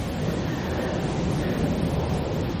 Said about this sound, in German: Oder vielleicht ist auch der Wind in den Baumkronen. Das ist der Wind in den Baumkronen.